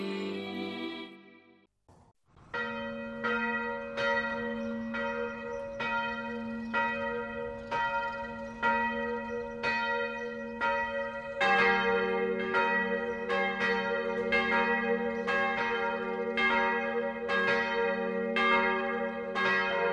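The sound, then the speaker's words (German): Church bells ring the Sunday noon peal in the village of Reichenkirchen, Upper Bavaria, Germany, between Munich and Landshut. They peal steadily in a continuous, rhythmic ringing, with a deeper bell joining partway through to make the sound fuller and louder. No voices. “Bayern 1 präsentiert das sonntägliche 12 Uhr Läuten auf Bayern 1, Radio für Bayern.”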